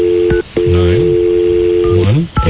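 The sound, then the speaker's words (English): Touch-tone telephone dialing of a TV ratings hotline number: loud, steady electronic beeps separated by brief silent gaps, with a lower wavering tone sliding underneath, clear with no talking. “Since we have the phone number. Nine.”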